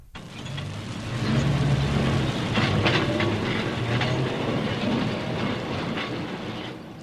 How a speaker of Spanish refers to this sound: Los trenes urbanos, como personas decentes, con un poco de todo, zafando el trole en las esquinas, mientras los rápidos atropellaban los minutos como nuevos ricos.